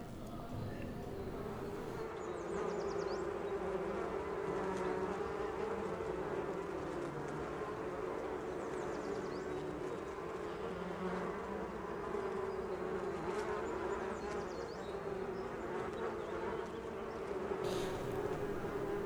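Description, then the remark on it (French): A steady, dense drone of many bees buzzing, continuous and fairly loud throughout, with faint higher whines drifting in and out. “C'est pour ça que j'ai fait ce choix de faire ce travail avec les autres auteurs avec lesquels j'ai fait cette pièce, qui sont les abeilles.”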